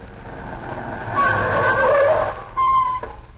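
A car brakes hard to a stop, its tires screeching loudly over a low engine rumble, then a second short squeal as it halts close by.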